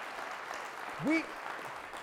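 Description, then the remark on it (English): An audience at Rev City applauds steadily for people giving their lives to Jesus Christ, a dense wash of clapping from many hands, with a single voice letting out a short rising whoop partway through. “Yeah, come on, if we're going to clap for anything, that is a good thing to clap for.”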